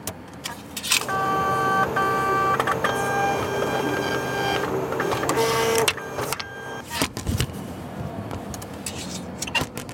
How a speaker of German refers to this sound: Ein x-beliebiger Fahrkartenautomat in einer deutschen Stadt. Wer Bus, Straßenbahn oder Regionalzug fahren will, hier gibt's die passenden Karten.